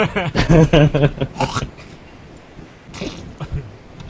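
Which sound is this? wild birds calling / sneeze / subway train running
sneeze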